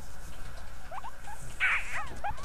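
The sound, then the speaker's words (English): Dexter, a pet guinea pig, squeaks in a run of short, high chirps, rising and falling in quick bursts, with a brighter, louder cluster midway over faint background hiss and no talking. “I think we've covered the whole guinea pig podcast crossover.”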